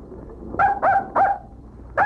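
animal, dog barking

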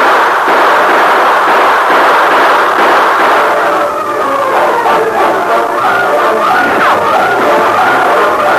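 sound effect, volley of gunfire

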